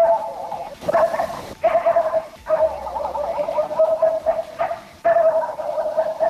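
A dog yaps and barks nonstop in quick, high-pitched bursts with only brief pauses, fairly loud and steady throughout, at night at 23:44, with no one talking.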